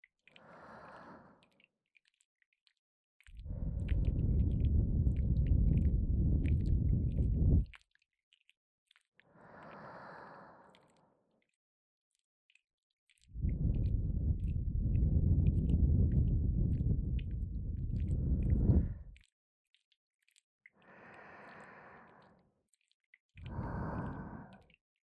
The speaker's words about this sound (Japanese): シスターの神聖な吐息を吹きかけてお清めです。